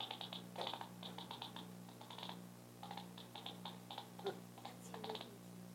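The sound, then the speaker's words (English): Bat echolocation heard through a bat detector: rapid, dry clicks in irregular bursts, like popcorn popping or tapping, over a steady low electronic hum, with no talking. “I'm going to go ahead and turn my bat detector on now too so we can hear his echolocation”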